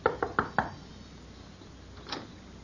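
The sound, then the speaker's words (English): Four quick, firm knocks on the wooden door of a small shack on the outskirts of a village, in a steady rhythm, followed after a pause by one fainter, duller thud. No one speaks. “Within the hour, she was knocking at the door of a small shack on the outskirts of the village.”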